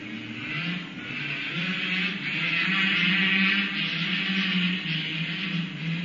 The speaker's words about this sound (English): Somebody must have got a new motorbike for Christmas.